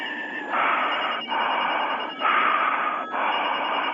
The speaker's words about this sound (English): You heard the screech. You heard the phone ring. You heard it all.